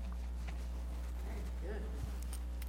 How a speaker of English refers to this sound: There's a custom in poetry circles that if you like the poem, you can click your fingers.